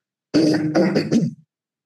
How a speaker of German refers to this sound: muss mich ständig räuspern. Das tue ich jetzt noch mal ausgiebig